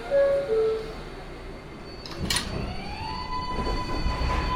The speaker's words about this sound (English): This is Manhattan Fast 7 local train. The next stop is Queensborough Plaza. Stand clear of the closing doors, Queens.